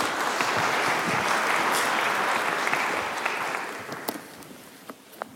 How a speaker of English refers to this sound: Brilliant, you can all go sit down. Round of applause for our wheat seeds.